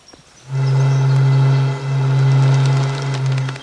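A conch shell blown like a horn: a loud, low, steady droning blast with a brief wavering dip partway through, then continuing strongly to the end. No one speaks.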